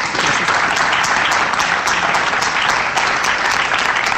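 Steady, dense applause from an audience, requested by the councillor (consejera), a continuous wash of many hands clapping at a loud, even level with no voices standing out.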